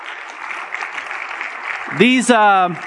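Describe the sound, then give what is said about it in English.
An audience claps steadily in a dense, crackling patter for a pastor couple as they are introduced as panelists, and near the end a single voice lets out a loud, drawn-out cheer over the continuing applause. “Yes, a round of applause for them.”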